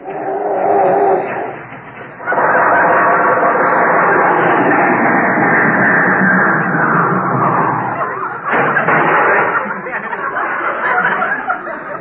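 An old car engine sputters and coughs loudly without catching, a rough, continuous churning that briefly drops off twice before grinding on again. It is Jack Benny's car failing to start in the garage of his Beverly Hills house as Rochester tries it again.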